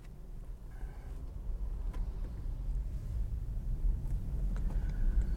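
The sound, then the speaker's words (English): A garbage truck rumbles outside, its deep engine drone steady and gradually growing louder, with faint mechanical whines and clanks over the low roar. No one speaks. “And we have the garbage truck.”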